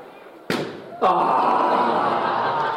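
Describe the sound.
A sharp balloon pop bursts out, followed half a second later by a second loud crack and a sustained wash of noisy crowd reaction with voices.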